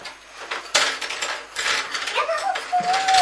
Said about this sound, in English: You can use your pencil sharpener now. I want me to sharpen it for you. Okay, shall I show you how to do it? Look, put the pencil on there, and then you turn it round like that.